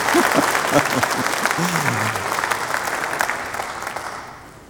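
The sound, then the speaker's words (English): A crowd claps during a sermon about Jesus, a steady, dense, sustained wash of applause that slowly fades, with a few voices calling out faintly beneath it near the start. “I thought you could have clapped there, but if you're not ready to die, then don't clap.”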